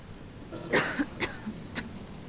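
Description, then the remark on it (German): An opera audience member coughs a few times as the audience falls quiet just before the performance begins, a strong first burst followed by two or three lighter, spaced coughs, against a soft hush. “Oh, jemand hustet.”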